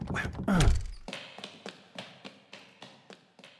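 A brief voice at the start, then roughly nine steady, evenly spaced thumps pounding on a stuck door, fairly loud, each a short dull impact.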